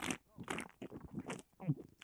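Loud gulps of beer being drunk as the first swig from a freshly opened can, a quick run of wet swallowing bursts with short gaps between them and no talking.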